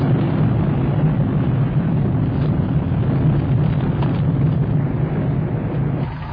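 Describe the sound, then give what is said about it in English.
A loud, steady roar of a spreading fire behind a red-hot door, a dense low rumble with constant crackling texture that never lets up, with no voices over it. “It's red hot. Bay, the fire separates”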